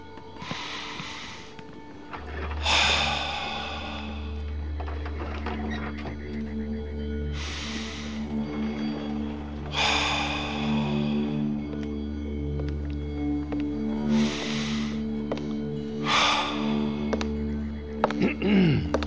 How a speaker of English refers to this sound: Continue that deep breathing and I'll be right back.